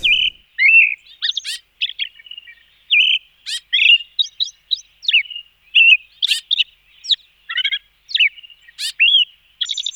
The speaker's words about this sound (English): With its call, the ostrich thrush characterizes the sunrises of the forest throughout the south of Chile and Argentina. The Mapudungun name, Wilki, is onomatopoeic from its melodic whistle.